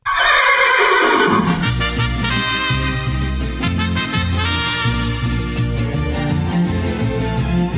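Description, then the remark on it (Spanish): A loud, shrill horse whinny opens, its pitch sliding downward over about a second and a half, then gives way to steady, full-bodied music with a rhythmic beat. “se ha dado cuenta de que ese sonido es tan desgarrador como el relincho de un caballo.”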